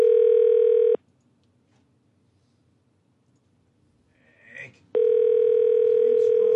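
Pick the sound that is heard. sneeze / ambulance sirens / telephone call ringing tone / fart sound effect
telephone call ringing tone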